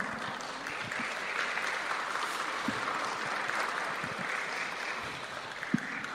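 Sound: audience applauding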